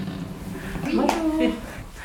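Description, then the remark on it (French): A child's high, wavering voice rises briefly over a low room murmur, with other faint young voices nearby: children playing in a corner of a community association hall that has tables in its centre. “Dans un coin, des enfants jouent.”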